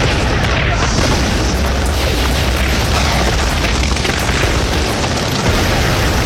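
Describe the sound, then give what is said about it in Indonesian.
Loud explosion effects roar through the whole stretch, a dense, booming rumble of blasts with crackling debris that never lets up, heavy in the low end. “Dia ikut menggebrak dengan pukulan-pukulan mematikan, dengan ledakan-ledakan yang menghanguskan segala.”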